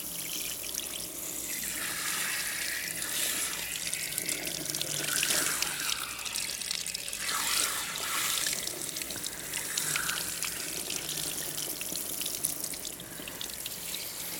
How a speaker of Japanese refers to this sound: はい、髪にシャワーしていくわよ。